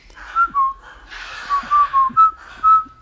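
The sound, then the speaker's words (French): Soldiers in the film The Bridge on the River Kwai whistle a marching tune, a bouncy melody of short, clear notes over a breathy hiss, steady, with no one talking. “Quand on met cette film, on a le double décorum de bruit. C'est très fascinant quand on voit sur l'écran. Les soldats sifflent le.”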